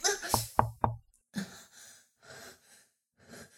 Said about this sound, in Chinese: 有人在敲门，我们快去门边。